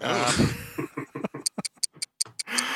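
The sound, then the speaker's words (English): A clock ticks in a quick, even series of sharp clicks, about half a dozen, following a brief stretch of muffled voices and noise at the start. “what's that ticking noise? It sounds like the Doom Clock”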